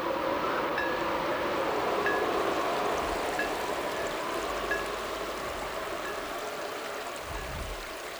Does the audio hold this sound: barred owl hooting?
no